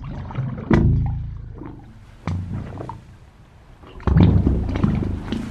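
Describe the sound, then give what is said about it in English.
Water filling a pipe gives off deep, resonant tonal moans in three loud swelling bursts, each ringing with rich overtones as the pitch creeps gradually higher. “As the water fills the pipe, there's less air, and that makes the pitch get higher. It's quite melodic.”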